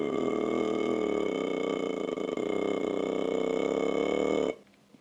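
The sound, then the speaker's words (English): A single long, loud, rumbling burp drawn out steadily for several seconds, then cutting off abruptly into near silence. “And after they've had their dessert, they do a little dinosaur burp.”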